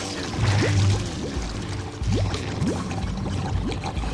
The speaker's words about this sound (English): They stand drenched, watching the car slowly submerge as its insides start to flood. The purple roof disappears into the muddy water, causing bubbles to erupt on the surface.